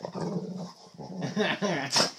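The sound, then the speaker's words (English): A male dog growls playfully in a steady, rumbling stream, the low grumble rising into whiny, higher-pitched bursts toward the end, fairly loud throughout with no clear speech. “What are you doing, you silly growl box?”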